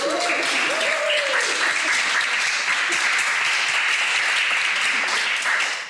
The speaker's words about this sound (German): Also ich möchte euch als erstes schon mal herzlich danken. Ein Applaus für euch, dass wir das so gut gemanagt haben.